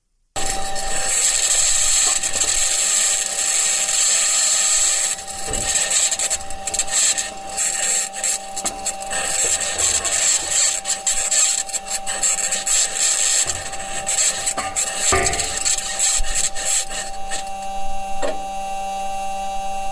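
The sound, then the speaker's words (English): Grinding, scraping mechanical noise from a NASA Mars rover's metal wheels rolling over the rocky surface of Mars, in audio released by NASA. It is a steady creaky rasp with squeaks and clanks, continuous and fairly loud with no talking. “But anyway, NASA released some audio of what this thing sounds like as it's rolling around the surface of Mars.”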